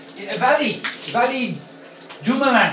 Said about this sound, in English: You're probably shocked to hear me doing an audio from the shower, but, you know, that's my style right now.